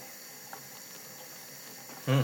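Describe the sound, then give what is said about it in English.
Beans simmering in a pot on the small stove ring give off a steady, soft hiss with a few faint, scattered pops, and a voice starts up loudly right at the end. “Get your beans bubbling.”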